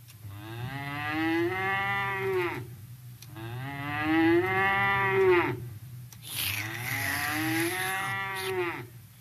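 Three long, loud cow moos in a row, each a drawn-out rising and falling bellow with brief pauses between, clear with no talking.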